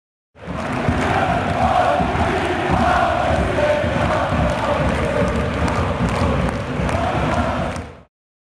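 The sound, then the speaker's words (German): A dense crowd of ice hockey fans roars and chants continuously in the stadium during a Straubing Tigers game, a loud, reverberant wall of many voices with occasional thumps and shouts rising out of the din. “Während der Spiele feuert er von den Zuschauerrängen aus die Mannschaft an oder animiert die Fans zu Sprechchören.”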